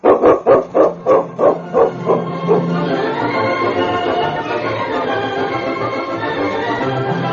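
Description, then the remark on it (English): A dog named King barks in a quick run of about eight sharp, evenly spaced barks, loud, then breaks off into a steady hum of background noise. “Your dog, he saved somebody's life.”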